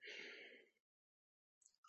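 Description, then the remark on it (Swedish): A long, deep breath drawn in sharply and steadily through the mouth for most of a second before chanting mantras, followed by silence and then a few soft, faint breathy sounds. “Andas in.”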